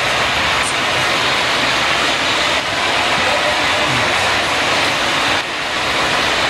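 A steady, dense wash of artificial baseball crowd murmur, an MLB-provided crowd sound effect used on Marquee's broadcast of the first intra-squad game, bright and hissy in tone, holding an even loudness throughout with slight dips around the midpoint and near the end.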